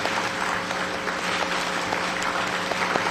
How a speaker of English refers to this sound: Let's welcome Lou Corona with a big round of applause. Yeah.